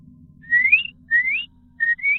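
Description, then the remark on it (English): A voice imitates a whistle heard coming from a tree line a little way off: a few rising whistled notes in a quick call-like pattern, like calling dogs, clear, with low background rumble and no talking. “And halfway, I'm almost to my home, 2-minute walk away from the house, I hear a whistle coming from the tree line just a little ways off from me.”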